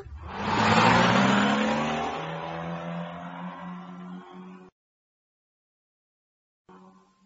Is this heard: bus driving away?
yes